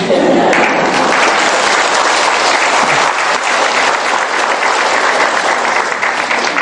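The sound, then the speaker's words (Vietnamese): Loud, sustained applause from an audience, a dense crackle of many hands clapping steadily for several seconds with no pause and no voices rising above it. “À, nói cái vụ vỗ tay nữa, thầy vô giảng mà vỗ tay, đừng có vỗ tay, im lặng chắp tay xá được không?”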